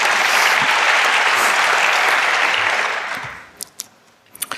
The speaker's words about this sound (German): Applaus, Applaus.